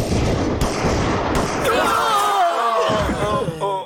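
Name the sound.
gunfire volley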